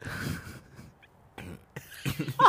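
cough

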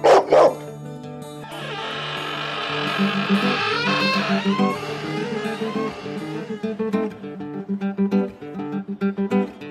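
dog barking

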